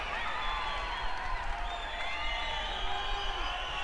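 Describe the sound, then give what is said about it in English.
A concert crowd roars with steady, dense applause and cheering after the drummer is introduced, holding at an even level throughout, with shrill whistles and whoops rising and sliding above the clapping. “We gotta get an applause meter up here.”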